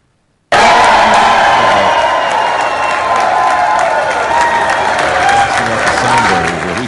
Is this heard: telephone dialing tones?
no